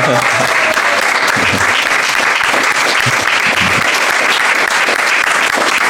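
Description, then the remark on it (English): A loud, sustained burst of applause from a large crowd, dense clapping filling all six seconds with scattered voices and cheers mixed in beneath it. “Let us please all, ladies and gentlemen, raise your spirits for a massive round of applause.”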